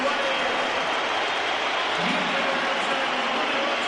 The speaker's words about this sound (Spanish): Algún pito se oye. Hay muchos pitos todavía, pero sí. Se oyen claro, también aplausos.